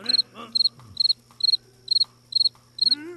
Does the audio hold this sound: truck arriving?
no